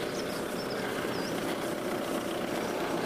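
A car engine idles steadily at a railway crossing with the barrier lowered, a low, constant rumble, with a few faint, high chirps above it and no one speaking.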